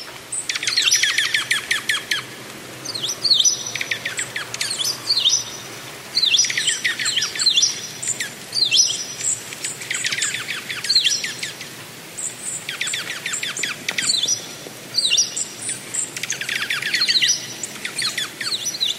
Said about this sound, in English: We go out with a recording of birds at a feeder in a snowfall in Ipswich, Massachusetts.